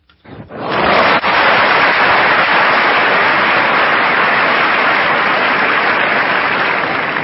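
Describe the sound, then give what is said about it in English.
A crowd breaks into loud, sustained applause, a dense wash of clapping that swells quickly after a brief quiet start and holds steady for several seconds without any talking. “That wasn't applause for you. That was applause for me.”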